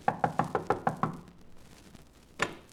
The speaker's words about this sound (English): Knock on the door, Mark.